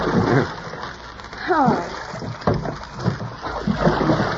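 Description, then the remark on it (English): Water sloshes and splashes in uneven surges as a small boat, low in the water, is pushed along with a pole through a dark swamp, with murmuring voices and brief vocal sounds over the steady wash. “He's going to push the boat with a pole, just like a gondolier in Venice.”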